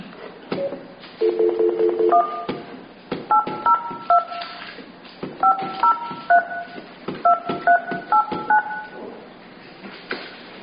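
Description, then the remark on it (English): A rapid series of telephone touch-tone beeps, short paired tones pressed in quick bursts like a number being dialed, clear, with brief pauses between groups. “To complete calls beyond your local area, you must dial a 1 plus the area.”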